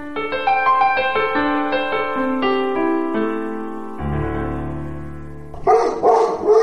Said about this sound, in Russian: Отрывистый лай собаки заставил меня вздрогнуть. Черный пес вдруг заволновался и начал агрессивно рыть землю, бросая призывные взгляды на хозяина.